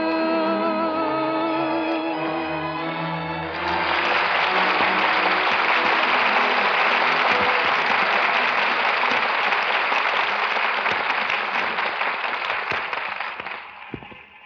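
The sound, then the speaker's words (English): A held orchestral chord ends and a large audience bursts into loud, sustained applause. The dense clapping continues steadily for about ten seconds before thinning out at the very end. “Listen, they're still applauding.”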